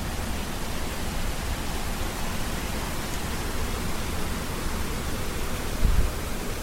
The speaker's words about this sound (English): All right, it's raining now. I'll probably go for a walk later after the storm's over. All right, the rain's back.